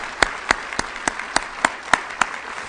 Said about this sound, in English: You that are with the Gideon camp, would you stand, please? We'd like to give a round of applause of welcome. We're delighted that you're here. Thank you for coming.